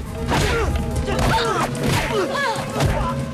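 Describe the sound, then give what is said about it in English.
A rapid flurry of heavy thuds and whacks from kicks and punches landing as a man fights off two gunmen, mixed with strained grunts and shouting voices over a dense, loud background. “Lee gets to his feet and fights off both men, kicking and punching.”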